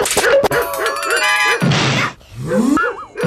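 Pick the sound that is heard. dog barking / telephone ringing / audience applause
dog barking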